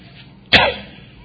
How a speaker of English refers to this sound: Excuse my cough. I don't think it's contagious anymore.